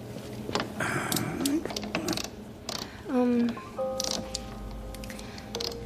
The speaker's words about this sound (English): Oh, hand me that wrench, please. This freezer door keeps coming loose.